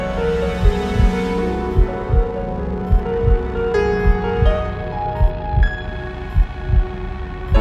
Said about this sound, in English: Hiding in this desolate womb, my insistent heartbeat is the only thing I hear.